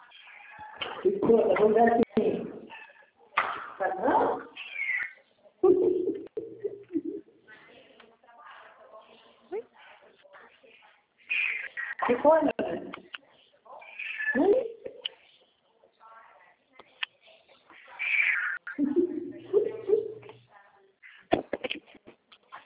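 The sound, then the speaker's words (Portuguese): A cat meows over and over, loud and insistent, some calls stretching into drawn-out wailing cries, with brief pauses between the bursts. “Então, gatinho, vai. Passa pra aqui.”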